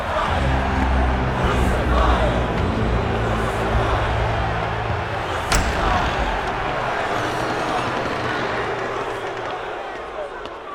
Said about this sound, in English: A large crowd had gathered outside the Praetorium, awaiting Pilate's decision.